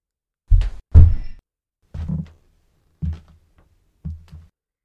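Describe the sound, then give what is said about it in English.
Five heavy, muffled footsteps thud at a slow, steady pace about a second apart, deep and booming as if coming through a floor, with no voices. “And then you thought the footsteps were down there in the subcellar with you.”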